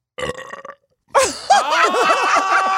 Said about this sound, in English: Aren't they the funniest burps that was ever? A weird burp.